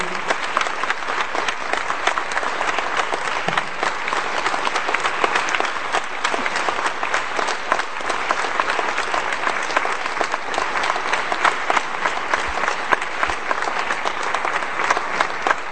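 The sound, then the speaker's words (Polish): A crowd applauds to thank the man who created the festival, steadily for about fifteen seconds, a dense, even wash of many hands clapping at full loudness with no pauses and no voices breaking through. “Podziękujmy mu jeszcze raz oklaskami za to, że stworzył, że wymyślił ten festiwal.”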